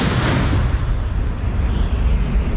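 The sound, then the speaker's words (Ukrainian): A heavy artillery shot booms loudly, its deep low rumble rolling on for a couple of seconds as the sharper high end gradually fades away. “Постріл!”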